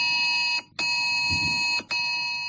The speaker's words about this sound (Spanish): Minutos después de esa hora, el 112 mandaba la alerta a los móviles porque estábamos en el nivel 1 del plan de inundaciones.